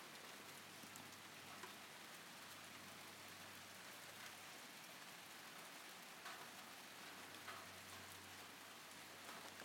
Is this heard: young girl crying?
no